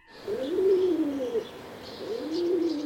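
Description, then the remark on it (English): Pigeons in a backyard coo in two long, throaty rising-and-falling calls, each about a second long, separated by a short pause, with faint high chirps in the background. “I was in the backyard with the pigeons.”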